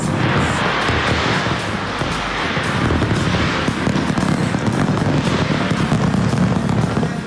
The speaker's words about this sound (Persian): در استرالیا آتش‌بازی به مناسبت سال نو بر فراز ساختمان اپرای سیدنی که خیلی شهرت دارد صورت گرفت.